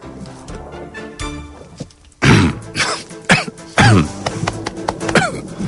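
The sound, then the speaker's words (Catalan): Several harsh, throaty coughs burst out in an irregular sequence, each loud and raspy, with quieter murmuring background noise before the first cough. “Tos, tu, aquestes hores, tu.”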